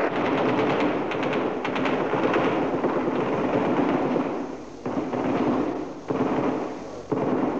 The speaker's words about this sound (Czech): Slyšíte střelbu?